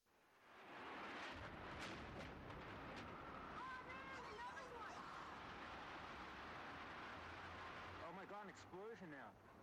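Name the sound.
explosion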